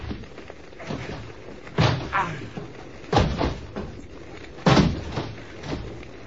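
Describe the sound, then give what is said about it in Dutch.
Someone tries to force open a locked door: three heavy, rattling thuds a second or so apart, fairly loud, with faint shuffling between them. “Probeer die deur dan nog eens.”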